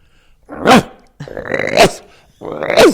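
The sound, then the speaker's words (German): A human voice imitates a water deer's alarm call with three harsh, raspy barks, each rising to a strained peak, evenly spaced. “Der Schrecklaut des Wasserrehes ist ein harsches Bellen. Kriegen wir das hin?”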